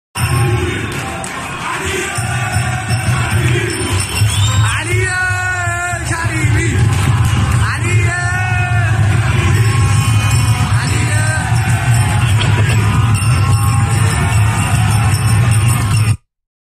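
A big football stadium crowd cheers and chants loudly and steadily for Ali Karimi at a match against Malavan Bandar Anzali, a dense roar of many voices with rising shouted calls and yells breaking through the sustained noise.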